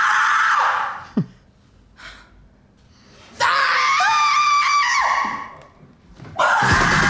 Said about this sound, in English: Wow. Yeah. A bit of a screamathon there.